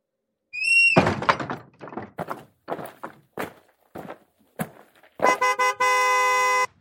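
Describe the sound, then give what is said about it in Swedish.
Car horns honk from cars driving past at great speed: a brief toot, a run of short beeps, then one long sustained blast, with heavy thumps and clatter of passing traffic in between. No one speaks. “Tjuter bilarna som far fram med väldig fart.”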